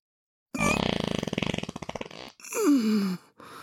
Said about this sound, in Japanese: おなら気持ちいい。神聖なる聖堂で汚い屁をこき散らすのたまりませんね。